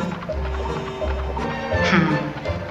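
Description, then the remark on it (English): A horse pulling a carriage moves along with dull, heavy hoof clops at an uneven pace, with faint creaking and rustling in the background. “Whenever I want to feel close to home, the only thing that helps is getting behind a horse.”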